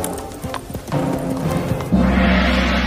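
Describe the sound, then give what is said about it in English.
Horse hooves clip-clop at a steady walking pace on a hard surface, the hoofbeats close and clear, with a low rumbling noise swelling in the background toward the end. “a beautiful-looking horse walked up before the king.”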